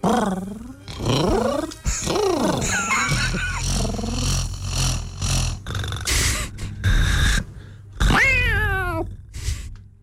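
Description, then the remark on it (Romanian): A person imitates a cat with a string of loud meows and drawn-out yowls, pitch sliding up and down, broken by a few rougher growling bursts over about ten seconds. “Dar poți să mai faci cum făceai? Eh? Cum făceai ca pisica?”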